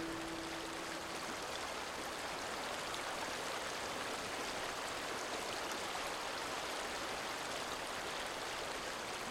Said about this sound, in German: Komm, wir setzen uns und beobachten den Fluss.